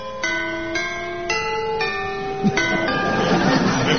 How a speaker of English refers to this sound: I must needs sound the mighty gatehouse bell. Grasp the rope, brace myself, heave!